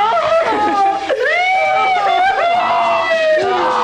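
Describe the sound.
A person imitates a donkey's bray, a loud, strained voice that sweeps up and down in drawn-out honking wails for several seconds.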